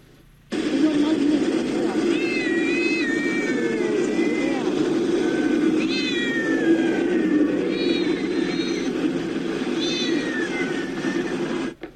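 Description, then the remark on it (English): Several house cats, confiscated from people's homes by the Chinese government in China as COVID measures and thrown in bags on sidewalks, meow repeatedly in drawn-out, wavering cries that overlap and recur throughout, set against a steady low rumble and a murky background din. “The Chinese government has also confiscated some huge but unknown number of house cats from people's homes, thrown them in bags, and left them on sidewalks to be killed.”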